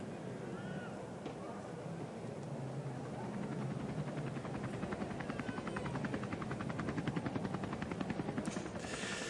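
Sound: helicopter flying overhead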